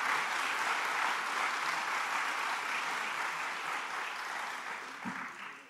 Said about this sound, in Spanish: Así que nuevamente, feliz Día de las Madres. Un aplauso para todas esas madres.